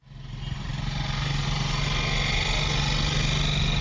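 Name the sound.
motorcycle taxi engine running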